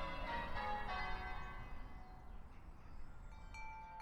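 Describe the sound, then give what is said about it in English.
Bells ring out in a rich, overlapping peal on Thursday, 2 January 1823, waking nuns and neighbors; their long metallic tones hum and slowly fade while fresh strikes chime in near the end, with a low rumbling background. “The bells kept on ringing, waking the nuns and neighbors.”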